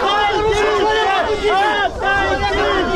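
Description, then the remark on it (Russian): A dense, indignant crowd shouts and yells angrily all at once, blocking a police car into which a detained deputy and activists have been put. Many overlapping raised voices fill the scene loudly and continuously, with no single clear speaker. “Движение полицейскому автомобилю преграждает возмущенная толпа.”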